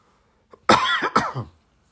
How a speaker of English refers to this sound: Excuse me while I cough.